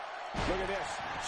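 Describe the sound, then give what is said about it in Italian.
A single heavy thud of a wrestler slammed onto the ring mat by a monkey flip in a women's wrestling match, loud, with a brief voice and a steady crowd roar surrounding the impact. “Monkey flip da parte di Bayley's.”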